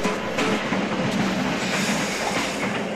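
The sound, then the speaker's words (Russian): A train pulling away after a doors-closing announcement, with a steady broad rumble and hiss of rail cars and faint clicking of wheels over the tracks, holding an even, fairly loud level throughout with no voices. “Осторожно. Двери закрываются. Следующая остановка...”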